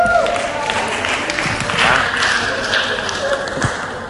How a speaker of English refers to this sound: like that moment of delusion where, like, are they clapping for me? And the answer is no. That's obvious.